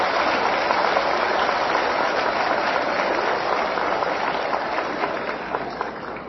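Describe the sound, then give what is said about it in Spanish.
A crowd applauds for Mexico City head of government Miguel Ángel Mancera, steadily for several seconds, a dense, even wash of many hands clapping at once that stays loud throughout and eases off only slightly at the end. No voices are heard. “Un aplauso para Miguel Ángel Mancera.”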